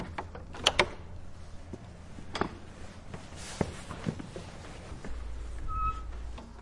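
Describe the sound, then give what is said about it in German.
A second door, a kind of gate, opens with a few sharp knocks and clatters into the inner courtyard of the Judenbad, a historic Jewish ritual bath building in Friedberg. Irregular footsteps echo as someone walks in, followed by a low rumble and a faint high squeak near the end. “Durch eine zweite Tür, eine Art Tor, betreten wir den Innen- bzw. Hinterhof des Gebäudes.”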